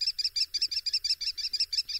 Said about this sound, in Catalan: El xoriguer és un ocell rapinyaire, s'alimenta de ratolins, té molt bona vista, fa els nius als forats de penya-segat, ataca amb les urpes amb les que mata l'animal i amb el bec esquinça la carn.